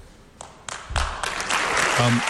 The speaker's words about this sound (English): I can't believe he's getting applause for that, but okay.